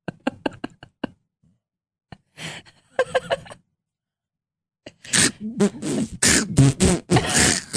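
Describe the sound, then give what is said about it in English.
A voice imitates a pot smoker's harsh coughing after a hit: a quick burst of short, choppy coughs, a pause, then rasping throat-clearing, and finally a loud, drawn-out hacking, hawking sound. “That just sounds like you're hawking a loogie.”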